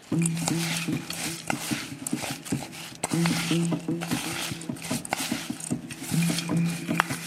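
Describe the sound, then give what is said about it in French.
Nearly 100 g of thick melted chocolate with 120 g of almond sticks being stirred, giving repeated sticky squelches and scrapes in a steady rhythm over a low, wavering hum. “Je brasse.”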